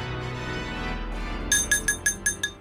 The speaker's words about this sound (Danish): Nå, skal der slås på glasset derovre?